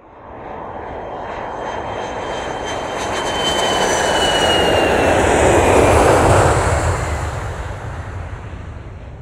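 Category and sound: vehicle, airplane engine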